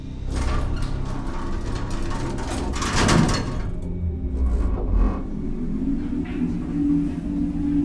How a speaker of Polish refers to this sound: Drzwi zamykają się.